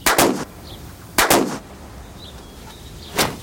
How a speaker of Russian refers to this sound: Тут Глымов достает парабеллум, стреляет вот туда, а когда цыпа упал, смотрит вот сюда.